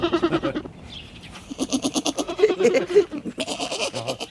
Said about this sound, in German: Das hat eine lustige Sprache, ja, so eine kleine Ziege. Mhm. So klein und schon so meckerig.